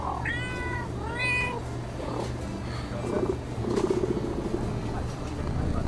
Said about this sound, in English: Pause to make prolonged eye contact with a bodega cat.